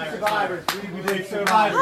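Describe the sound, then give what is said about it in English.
A crowd of protesters cheers and shouts over a couple of seconds as people leave a restaurant, with a few sharp, loud claps or slaps cutting through at irregular moments. “The protesters cheering when they left.”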